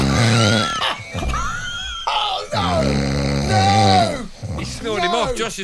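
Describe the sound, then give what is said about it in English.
A person loudly imitates snoring, with a run of drawn-out, groaning snorts and rasping breaths, nearly continuous for several seconds with short gaps between. “He just snored Martin off.”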